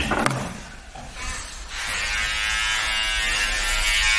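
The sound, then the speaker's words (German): A small electric trimmer trimming eyebrows buzzes, starting quietly after a brief click and settling into a steady, bright motorized whir that holds for several seconds. No one speaks. “Machst du nochmal hier Augenbraue? Ja, sicher.”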